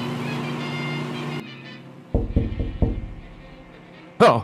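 A microwave oven heating six pizza rolls for 1 minute and 15 seconds hums with a steady, buzzy drone that cuts off abruptly, followed by a few low, dull thumps and a brief sharp burst of sound at the end.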